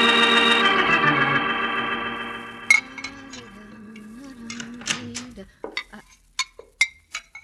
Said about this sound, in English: keep on washing your dishes.